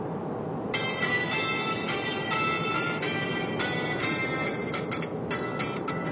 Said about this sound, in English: This is my alarm. When I set alarms on my phone, which is not very often, that's the default for that.